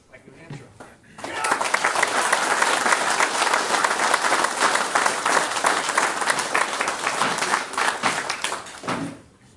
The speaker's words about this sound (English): As I said, I appreciate the enthusiasm here, but I would really ask you to refrain from the applause.